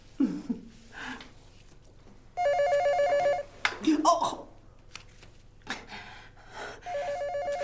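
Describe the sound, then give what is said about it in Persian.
A telephone rings loudly with a warbling electronic trill, two ring bursts separated by a pause, while a person's voice and some movement are heard between the rings as someone goes to answer it. “تو بشین بشین قشن غذا تو بخور، من خودم میخوام تلفن رو جواب بدم.”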